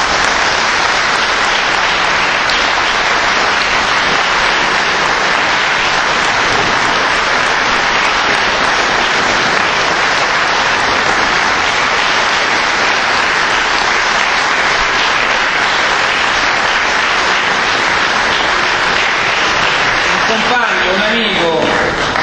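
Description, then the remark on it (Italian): Sustained applause from an audience at a union assembly, in memory of a deceased person who believed in the project of a single grassroots union, a dense, even clatter of many hands clapping that holds steady at a loud level for about twenty seconds before thinning out at the end. “Io chiedo un applauso perché almeno l'ha presa.”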